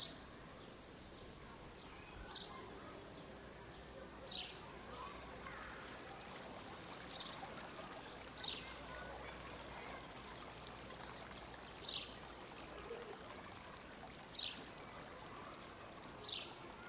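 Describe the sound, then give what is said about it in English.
A water fountain trickles steadily in a soft, continuous wash, while short, sharp high-pitched chirps cut through about every two seconds. “Listen carefully for the trickling of a water fountain.”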